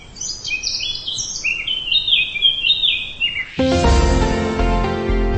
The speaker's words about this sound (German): Vielleicht setzen Sie sich dabei auf eine Bank unter den Bäumen, lauschen dem Gesang der Vögel und lassen Ihre Seele für einen Moment frei atmen.